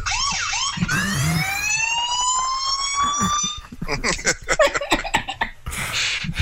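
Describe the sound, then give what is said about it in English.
A rising electronic siren wails loudly for a few seconds, sounding tinny like it's played through a small phone speaker, then gives way to scattered clicks and bursts of noise. “Well, you want an alarm, so we send a couple of those off, and then you have a little rat-tat-tat.”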